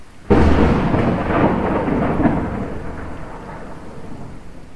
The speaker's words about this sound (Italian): A quel segnale, il vecchio dio della pioggia scagliò un fulmine che colpì la roccia proprio nel punto più sottile.